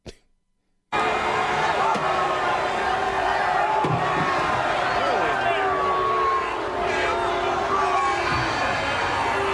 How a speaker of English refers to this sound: He got booed.